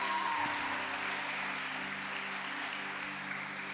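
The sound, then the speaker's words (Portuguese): An audience at Cola de Deus claps for first-time visitors, a dense, sustained wash of applause that fills the whole stretch, with a faint tonal hum underneath and no one speaking over it. “Vamos aplaudir essas pessoas.”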